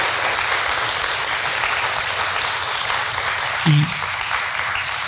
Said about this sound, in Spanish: Le damos un aplauso con todo cariño